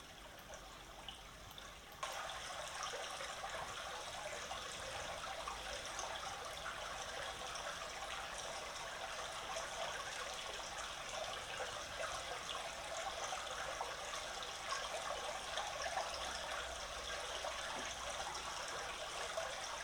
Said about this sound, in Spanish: Y ahora, para que ustedes estén tranquilos un ratico, les voy a poner el sonido del elemento agua para que ustedes puedan relajarse con el elemento que más purifica, que es el agua. Ojalá lo disfruten.